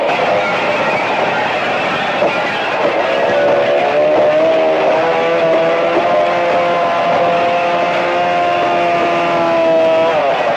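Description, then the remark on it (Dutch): A circular saw used by police cuts into a door with a loud, continuous grinding whine, its pitch dipping and wavering as the blade bites into the material, with no talking. “Aan de andere kant gaat op dit moment de cirkelzaag de deur in.”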